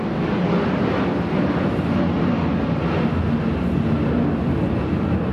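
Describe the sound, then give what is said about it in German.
A steady, broad roar of airplanes taking off and landing over a house, garden and studio under the flight path in Sydney on a sunny day. The dense rumbling wash holds at a constant loud level without pause, with no voices. “An diesem Tag liegen Haus, Garten und Studio im schönsten Sonnenschein und die Idylle wird nur durch das Dröhnen aufsteigender und landender Flugzeuge gestört.”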